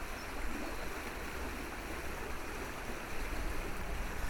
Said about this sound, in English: But I wanted to stop here for a while just so you can hear the water. The water to the right of me is churned up. It's brown and full of the depths of this river, all churned up.